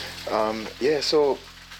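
Steady sizzling of food frying in a pan fills the background, a continuous crackling hiss, while short bursts of a nearby voice rise over it.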